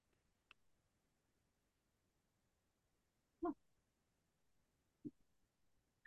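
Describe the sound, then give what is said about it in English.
A dog named Rocky, at the door wanting to come in, makes a few brief, scattered sounds, short yelps or whines, with long quiet gaps and no one talking. “it was my dog, I think was, yep. Hold on. He wants to come in.”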